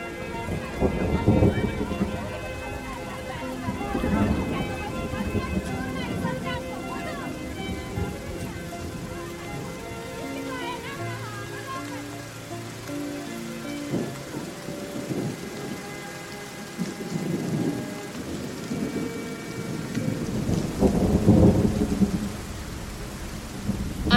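Heavy rain pours steadily throughout, with deep rolling thunder swelling near the beginning and again toward the end, and a soft tonal musical backdrop underneath; the rain is starting over the yard of a sanatorium.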